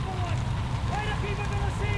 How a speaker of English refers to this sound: Your fire has destroyed all memory of the storm except its noise. Listen to that wind, gentlemen.